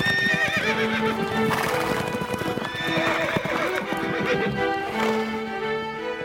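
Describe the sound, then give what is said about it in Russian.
Horses gallop into a castle courtyard with a steady, rapid clatter of hooves while high, wavering neighs and whinnies ring out repeatedly over the rhythm. No one speaks. “Когда же они на 3-й день прискакали на замковый двор, то с криками «Ура!» лихо спрыгнули с коней, щелкнув в воздухе каблуками.”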